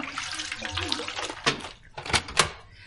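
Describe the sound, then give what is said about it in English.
Water wrung by two people from a wet jacket splashes and dribbles into a goldfish bowl in uneven spurts, with a few louder splashy gushes toward the end, fairly quiet overall. “Now, you take one end, I'll take the other, and we'll wring it out into the goldfish bowl.”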